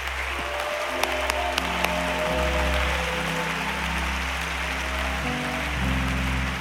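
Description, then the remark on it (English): An audience gives a sustained, hearty round of applause in praise of the Lord, dense clapping that holds steady for several seconds over a low organ-like drone, with a few sharp louder claps early on. “Could we put our Bibles down and one more time give the Lord a great and hearty hand clap of praise?”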